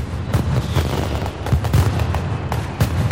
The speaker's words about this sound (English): The Mascletà is a pyrotechnic event that, unlike fireworks, does not focus so much on the visual aspect, but mostly aims to produce noise and rhythm. The explosions of the Mascletàs are supposed to rise in intensity until they reach a thunderous